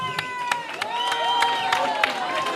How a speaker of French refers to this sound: Je vous demande de les encourager avec vos applaudissements, s'il vous plaît.